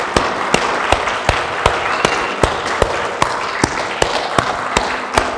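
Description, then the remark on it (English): A church audience claps together in a steady rhythm as a clap offering to the Lord during a morning service, sharp unified claps landing about twice a second over a continuous wash of scattered applause and crowd noise. “Can we just give a clap offering to the Lord?”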